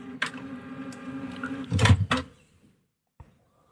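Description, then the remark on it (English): An inkjet printer's mechanism whirs and grinds as the print heads, just cleaned, shift off the cleaning pad, a steady motor hum with a louder clunking surge near the end, then a brief click before silence. “It's just cleaned the heads for you. It's moving the heads off the cleaning pad.”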